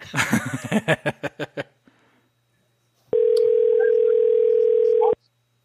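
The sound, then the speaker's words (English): A burst of rhythmic laughter fades out, then after a pause a steady, mid-pitched telephone ringback tone sounds once for about two seconds before cutting off abruptly. “9 rings, you already know what the fuck it is.”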